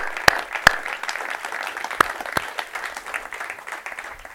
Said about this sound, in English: So maybe we can give them a round of applause as a thank you.